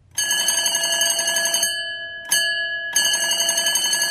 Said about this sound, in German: Sie gingen zusammen in ein Haus und klingelten an der Tür.